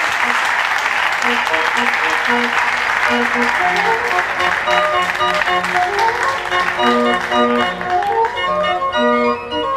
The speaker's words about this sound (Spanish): Un aplauso también para él y para el órgano, para los órganos.